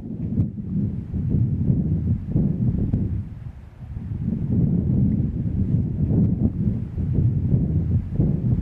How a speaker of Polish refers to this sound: Takiego wiatru jednak nigdy w górach nie nagrałem. Nagrałem podobny, na nadbałtyckiej plaży. Posłuchajcie go teraz ze mną.